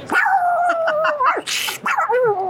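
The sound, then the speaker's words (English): A person imitates a pug, producing a quick string of high, whiny yips and barks, a sharp snorting huff midway, then more nasal whimpering, fairly loud with no talking. “I honestly thought when I moved to Los Angeles, I would be able to bark like a pug.”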